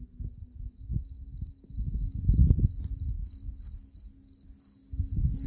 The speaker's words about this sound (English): Also, you hear the crickets.